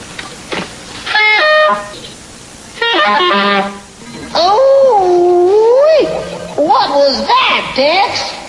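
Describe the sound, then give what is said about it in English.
A saxophone is played badly, letting out several loud honking blasts, short bleats at first, then longer wobbly notes that slide unsteadily up and down in pitch. “It's a saxophone.”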